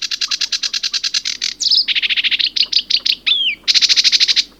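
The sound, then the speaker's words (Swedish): A sedge warbler sings a fast, chattering song of rapid repeated high notes, broken by a few varied trills and rising whistled phrases, loud and continuous with no voices, at a lake whose shore meadows hold breeding sedge warblers. “På strandängarna i norra och södra delen av sjön häckade 93 par sävsångare.”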